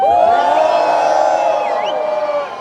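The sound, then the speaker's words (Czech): An audience roars and cheers loudly all at once in response to a call for everyone who would like to retake their maths school-leaving exam: a dense wall of shouting voices with a few high whoops rising above, holding steady before starting to fade. “A všichni, teďka zařvou všichni, kteří by chtěli znova zkusit opakovat maturitu z matematiky.”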